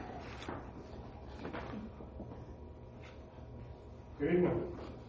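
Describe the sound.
A door opens as someone comes in, with a short, fairly loud burst of creaking and clatter near the end, set against a steady murmur of room noise and indistinct voices.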